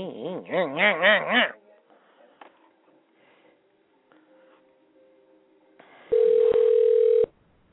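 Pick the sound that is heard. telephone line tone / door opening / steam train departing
telephone line tone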